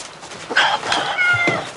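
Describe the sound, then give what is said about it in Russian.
A cat meows a few times in quick succession, clear, with drawn-out tonal cries over a faint background hiss and no one talking. “Это ваша кошка?”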